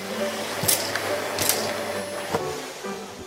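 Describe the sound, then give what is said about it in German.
A vacuum cleaner drones steadily while small hard Lego bricks rattle and clatter up the nozzle in three or four quick bursts. “Oh nein, du hast Lego weggesaugt.”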